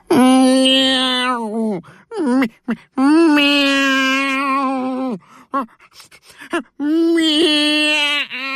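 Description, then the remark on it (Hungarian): A human voice loudly imitates a cat, letting out three long, drawn-out wailing meows with rising and falling pitch, separated by short gasping breaths. “Megfeszítette a lábát, hátravetette a fejét, és elkezdett rettenetesen nyávogni.”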